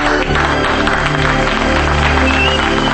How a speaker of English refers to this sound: As they turn from their kiss, Harry and the crew clap.